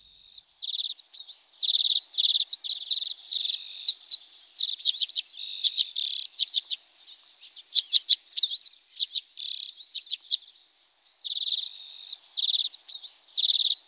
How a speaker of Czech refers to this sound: Pokud tento zpěv uslyšíte v červnu někde na Šumavě a ornitolog vám řekne, že jste právě poslouchali zpěv čečetky zimní, budete jistě trochu překvapeni.